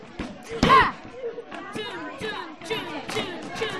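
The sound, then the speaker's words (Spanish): A single heavy, muffled thump of a fist punching into roscón bread dough to compact it, loud, with people talking and chattering throughout. “¿Qué técnica es esta exactamente? ¡La de puñetazos! ¡De sacar tu ira contra el roscón!”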